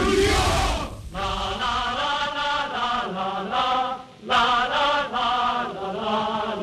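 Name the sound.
crowd chanting a slogan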